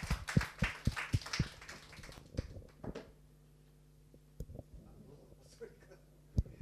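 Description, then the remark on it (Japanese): A brief, soft round of applause from a church audience clapping in thanks to the Lord after a prayer, sharp claps thickening for about two seconds, then thinning to a few scattered taps over quiet background hum. “主に感謝の拍手を捧げたいと思います。”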